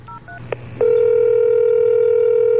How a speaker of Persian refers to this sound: همونجا رو تخت گوشی رو برداشتم و شمارش رو گرفتم.